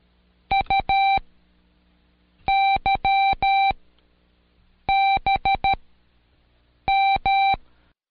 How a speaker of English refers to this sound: Every letter in Morse makes its own distinctive sound, as long and short beeps are combined into patterns. Listen to these.